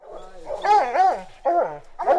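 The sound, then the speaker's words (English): A pair of hound dogs bay in long, wavering howls, overlapping cries rising and falling with brief pauses between bursts, after catching the scent of a mountain lion while tracking with scientists in the Santa Cruz Mountains, south of the Bay Area in Northern California. “After 6 hours of searching just south of the Bay Area, a pair of hound dogs has finally caught the scent.”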